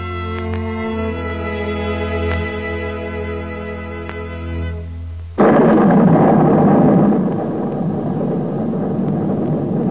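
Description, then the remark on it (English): A steady, harmonic drone plays for about five seconds, then a fierce storm abruptly bursts in: a loud, dense roar of pouring rain and rushing wind that continues unbroken to the end. “As Reb Leib was traveling home, a fierce storm broke loose, and there was a very heavy downpour of rain. The winds were howling, and the roads became so muddy, making traveling so very difficult.”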